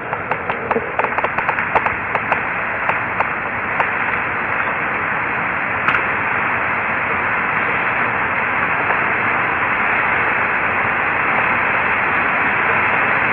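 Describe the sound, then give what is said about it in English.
Steady, hissing radio static on Apollo radio communications between Houston and Aquarius fills the whole stretch, with a burst of sharp crackles and pops during the first few seconds before it settles into an even, unbroken hiss. “But the static has dropped out in the background.”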